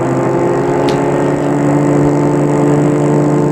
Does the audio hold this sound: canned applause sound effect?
no